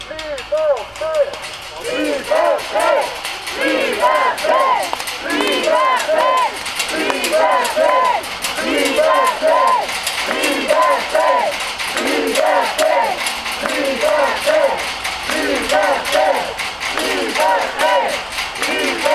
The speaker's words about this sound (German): Dort angekommen skandieren sie und rütteln am meterhohen Außenzaun des Gefängnisses. Die Gefangenen stimmen immer wieder durch Rufe und Pfeifen in den Protest ein.